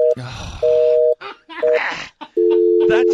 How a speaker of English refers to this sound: That quick signal means the international lines are busy, I think. Yeah. It doesn't mean the number's wrong or anything like it.